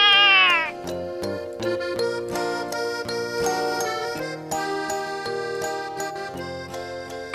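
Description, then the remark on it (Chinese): A cat, struck on the back by a thrown teddy bear, jumps up and lets out a sharp, drawn-out, loud meow of protest right at the start, followed by bright, tinkling music playing on for several seconds. “熊娃娃击中了猫的背，猫一跳而起，抗议地叫着。”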